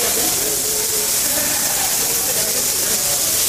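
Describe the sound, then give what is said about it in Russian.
Salmon sizzles loudly as it is fried on a hot grill, a dense, steady crackling hiss that runs unbroken from start to finish. “В общем, жарят его, рыбку нам жарят.”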